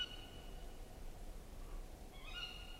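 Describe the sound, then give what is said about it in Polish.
A thin, drawn-out bird call drifts faintly through a hushed night forest, with a second brief, wavering cry rising near the end over steady low background hiss. “To dziwne były dźwięki w lesie. To w nocy właśnie?”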